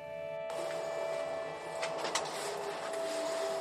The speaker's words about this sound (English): I'm back on the train on my way to the Dessau offices of Germany's Environment Agency.